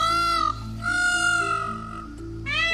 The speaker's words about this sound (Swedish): Vi klämmer in hur en påfågel egentligen låter här.